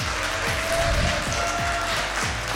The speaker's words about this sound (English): Today's episode is being recorded live here at Cycling Brews in De Pere, Wisconsin. Welcome, everybody. Welcome our live audience. Can you give yourselves a big round of applause?